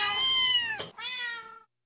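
A stray feral cat meows twice in quick succession, loud, each call a drawn-out, slightly falling wail with a brief break between them and silence at the end.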